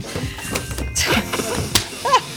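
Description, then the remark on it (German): An inflated condom bursts with one sharp, loud pop, surrounded by overlapping voices and a brief high squeal right after. “Mein Kondom ist explodiert.”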